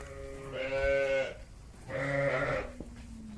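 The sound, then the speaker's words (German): Sheep bleat from a flock of many excited sheep, two long wavering calls one after another with a short pause, over a faint background murmur of other animals. “Da sind ganz viele Schafe. Ja, die sind jetzt ganz aufgeregt.”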